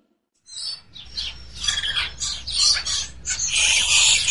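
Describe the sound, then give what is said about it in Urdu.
Hens and a rooster cluck amid a rapid flurry of high-pitched mouse squeaks, the chattering growing denser and louder toward the end, with a low hum underneath and no talking. “یہ مرغی اور مرغا ہے, اور یہ ننے ننے سے چوہے.”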